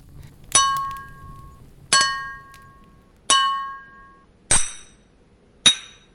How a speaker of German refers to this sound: Du wirst vom klirrenden Sound der umfallenden Club-Mate-Flaschen vor deinem WG-Zimmer wieder in die Realität gerissen.